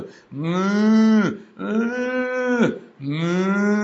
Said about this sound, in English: I'm hearing the lowing of oxen. What's all that noise of animals that I'm hearing?